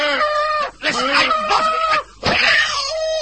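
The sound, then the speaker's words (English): A human voice imitates a cow's mooing, making three loud, drawn-out calls separated by short pauses. “Make cow noises. Listen.”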